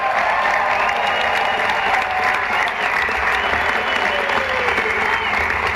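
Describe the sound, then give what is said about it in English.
Sustained applause from a large audience for First Lady Melania Trump, a dense, steady wash of clapping at an even volume with faint whistles and cheers threaded through it. “Can we have a round of applause for First Lady Melania Trump?”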